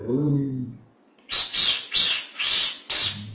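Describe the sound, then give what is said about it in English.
Sparrows and hedge birds chirp in a quick, rhythmic run of about five bright, loud bursts, following a brief murmur of a voice at the start. “All the birds of all sorts, sparrows, hedge birds, other birds, known and unknown, reminding us, here, now, singing the Dharma, expressing the Dharma”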